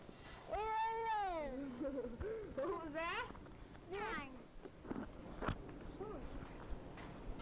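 A cat meows several times, drawn-out rising and falling cries spaced a second or two apart, with softer chirps near the end over a faint background hum.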